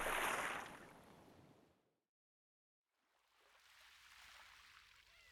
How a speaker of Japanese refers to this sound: 砂浜でのんびり日向ぼっこするのも気持ちいいね。波の音が BGM みたいだし、リラックスできるな。